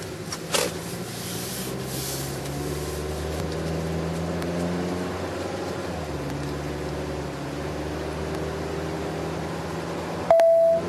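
A steady, rumbling drone like a car driving fills the background, then near the end a single short electronic beep from a GPS navigation device sounds clearly and loudly.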